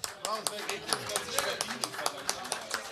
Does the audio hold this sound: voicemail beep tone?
no